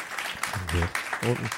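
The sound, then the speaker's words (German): A crowd claps steadily throughout, applauding for an audience member's question, a dense wash of applause with a few voices calling out over it in short bursts. “Ich glaube, da war ein bisschen mehr zu hören.”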